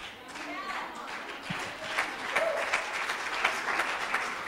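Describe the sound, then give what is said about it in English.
An audience claps steadily for several seconds, a dense, crackling wash of many hands at moderate volume that swells slightly toward the end, with faint voices mixed in. “Now listen, you don't have to clap if you don't want to.”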